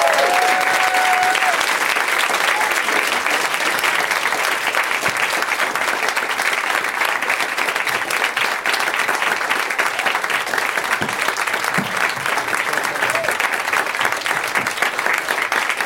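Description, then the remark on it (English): Sustained, loud audience applause fills the whole stretch, a dense steady clatter of many hands clapping without pause, with a brief whistle or cheer rising out of the crowd near the start, as the audience welcomes guests coming out to take their seats. “I love you guys because the longer it takes them to come out and get in their seats, the longer you clap, and it just seems insanely enthusiastic.”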